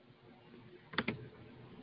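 Two quick mouse or key clicks sound about a second in, one right after the other, over a faint background hiss with no voices.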